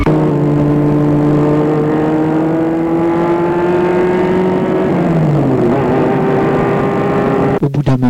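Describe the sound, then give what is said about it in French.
A car engine runs steadily with a loud, even drone. Its pitch shifts and dips as it slows, and a few sharp clicks and knocks come near the end. “Ils sortent de voiture et marchent sur la plage.”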